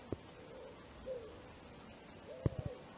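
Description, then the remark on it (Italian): Soft, low bird calls drift over a steady rush of wind, along with human voices carried in the wind and various noises; a few faint hooting notes spaced apart, with a couple of brief thumps near the end. “Come vedete e come probabilmente sentite, c'è vento, ci sono richiami, voci umane nel vento, rumori vari, ma questo non è rumore, questo è il suono del mondo.”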